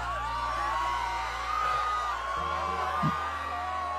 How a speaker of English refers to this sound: Pay no attention to the screams in the background. It's perfectly normal.